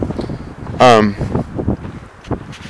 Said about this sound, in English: But you can hear the wind. It's unusually windy right now.